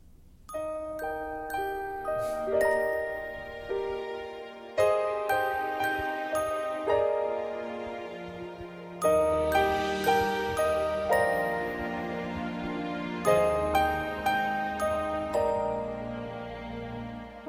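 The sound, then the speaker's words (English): Bright, chiming little bell tones ring out in a festive Christmas song melody, struck in quick repeated phrases with sparkling high overtones over a warm musical backing, with no voices. “It's actually her attempt at a Christmas song, so it'll have little bells in it, which is so good.”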